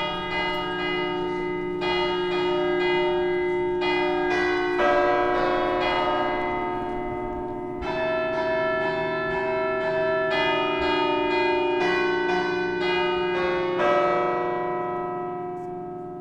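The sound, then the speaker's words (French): Several cathedral church bells peal together in a full, overlapping cascade, new strikes landing every second or two over a sustained ringing hum that fades slightly at the end. No voices are heard. “L'histoire des cloches vous a plu ?”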